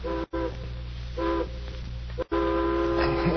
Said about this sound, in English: And the next morning, a distant train whistle wakened me.